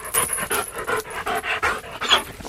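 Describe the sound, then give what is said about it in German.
A dog growls and barks in a quick, steady series of short, rough bursts, about four per second, with no one speaking. “Nein, wirklich mithalten können wir nur beim Knurren und Bellen.”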